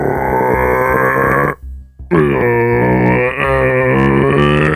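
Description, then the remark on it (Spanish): A person imitates a rutting red deer's bellow as the first of three imitations in a contest judging which is most realistic: two long, loud, low guttural roars with a rough, grunting tone, separated by a brief pause. “Empecemos por el primero, la berrea del ciervo.”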